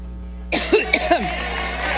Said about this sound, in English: Go back to like the middle of her coughing fit, just so you know how long it's actually taking.